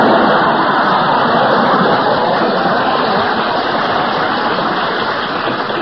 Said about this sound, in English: To live to see the day Berle gets applause on this program. It must have been a recording someone sneaked in.